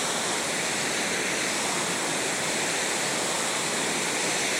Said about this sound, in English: Big waterfall. Yeah, that's nice. Look at that. Very nice. A little audio from that one.